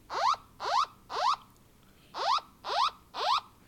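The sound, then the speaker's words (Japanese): An emergency earthquake early warning alert received on docomo, au and SoftBank mobile phones and smartphones sounds: loud, harmonic rising tones in two sets of three quick upward sweeps, with a short pause between the sets and no talking. The full buzzer lasts 30 seconds. “今のブザー音が30秒間になります。”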